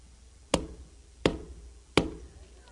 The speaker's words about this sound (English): There you are! On the outside, knocking,